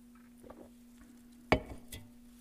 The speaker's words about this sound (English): Drink a little bit of water here.